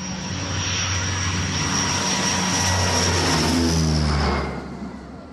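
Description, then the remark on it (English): A steady, loud roar of an airplane's jet engines fills the space, a broad rushing drone with a high whine, holding constant before easing down near the end. “The boys had never been on a plane before.”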